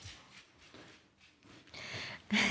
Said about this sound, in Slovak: Psík nám prebehol okolo.